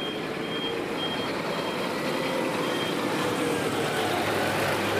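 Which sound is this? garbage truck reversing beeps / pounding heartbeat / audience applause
garbage truck reversing beeps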